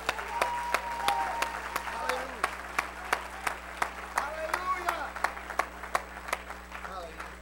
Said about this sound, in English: You glad to live for God today? Let's clap our hands and bless his name.